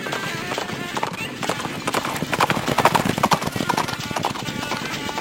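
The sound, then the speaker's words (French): Horses gallop with a fast, steady clip-clop of hooves on hard ground as knights with lances charge at each other in a jousting final, the pounding growing louder toward the middle, then easing slightly. “Les chevaux s'élancent.”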